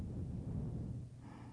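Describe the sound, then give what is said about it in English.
A slow, steady inhaling breath, a soft continuous airy rush lasting over a second with no talking, taken during barefoot walking meditation. “Breathing in.”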